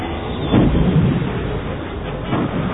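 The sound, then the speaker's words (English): A deep, rumbling explosion of two proton torpedoes blasting through a conduit, with a shockwave that rocks a fighter craft, swelling into a heavy boom early on and rolling again near the end, a dense low roar filling the whole stretch. “The paired torpedoes blasted through the conduit, causing a shockwave that rocked the fighter.”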